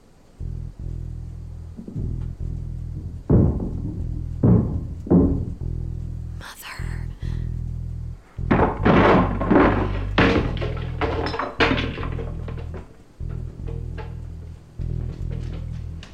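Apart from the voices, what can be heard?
knocking on a door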